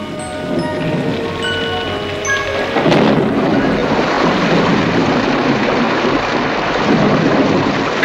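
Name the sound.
thunderstorm with rain outside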